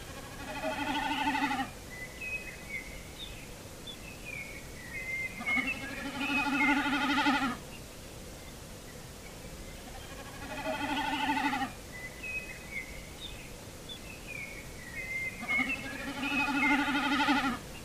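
A snipe drums four times, each burst a tremulous, bleating hum lasting about two seconds, evenly spaced, with thin bird chirps in between.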